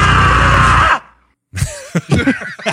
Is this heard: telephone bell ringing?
no